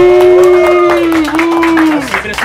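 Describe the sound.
A few people clap in quick, uneven bursts while a voice holds a long, steady cheering note over the claps, all fairly loud, applauding a man who has just arrived unexpectedly.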